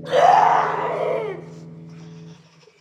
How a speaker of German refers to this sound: Die Leute im Schloss schreien.